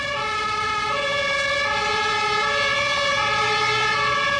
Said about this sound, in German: Na, hoffentlich lässt die Feuerwehr sich nicht allzu viel Zeit. Ah, da höre ich sie schon.